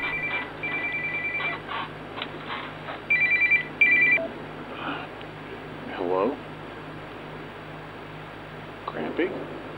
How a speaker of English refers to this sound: Oh, there's the phone call.